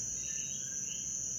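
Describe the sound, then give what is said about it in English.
A short-tailed cricket's call, recorded in Puerto Rico: one unbroken, piercing high-pitched buzz that holds perfectly steady, like a drilling beep, with no pauses and no voices. “This is the call of the short-tailed cricket, which Isaul says sounds like a drilling beep that's going to melt your brain.”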